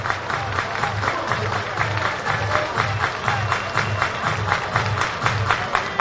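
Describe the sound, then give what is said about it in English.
A large baseball stadium crowd in Dayton roars steadily during a Lansing versus Dayton game, with a rhythmic pulse of clapping or chanting running through the dense, continuous wash of noise. No voice stands out from the crowd. “Another massive crowd in Dayton.”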